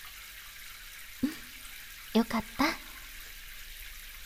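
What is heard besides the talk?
shower water running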